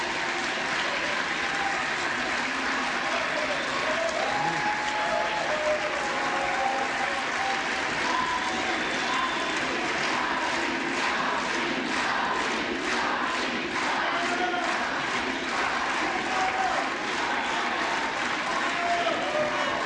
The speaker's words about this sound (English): Cheering? Is that what's going on? Yeah, cheering for Hakeem.